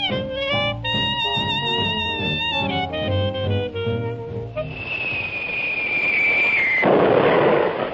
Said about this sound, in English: Boy, that sounds like one of them incendiarian bombs.